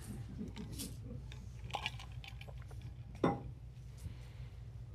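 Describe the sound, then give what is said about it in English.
Someone pauses to drink water: soft clinks and handling noises of a glass, then one sharper knock as it is set down, over a low steady hum with no talking. “Let me take my dramatic pause for a drink of water here.”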